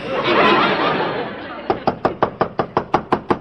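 A burst of noisy laughter fades, then about ten loud, rapid, sharp knocks pound on a door of a room in an apartment house, in a steady, insistent rhythm. The landlady is knocking.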